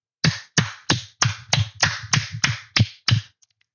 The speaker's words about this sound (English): Keep applauding like a good, obedient, dumb, trained animal. Keep applauding.